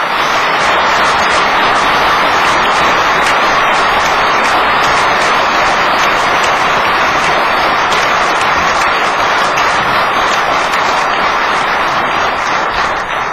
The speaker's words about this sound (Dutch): En ik vraag u, dames en heren, hem met een mooi applaus te waarderen.